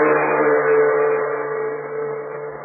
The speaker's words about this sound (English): The big truck clatters and rumbles down the Burma Road, bound for a nearby river.